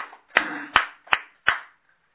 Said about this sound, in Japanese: 36歳の誕生日を迎えられましたので、盛大な拍手でお祝いします。